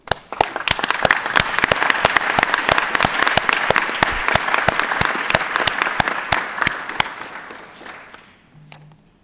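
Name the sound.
audience applause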